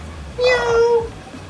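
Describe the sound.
A person imitates a cat with a single drawn-out, nasal meow, fairly loud, lasting under a second against a quiet background.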